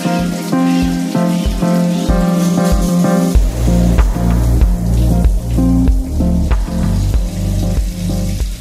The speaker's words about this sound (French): Sous la douche.